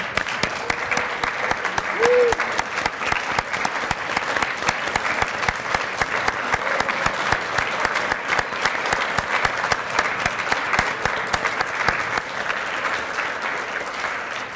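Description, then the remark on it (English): A large standing audience at a United Methodist awards evening gives another big round of applause, clapping steadily for about fifteen seconds, a dense, even roar of many hands that stays loud throughout, with a brief faint call near the start. “I think we just need to stand to our feet and just give another big round of applause.”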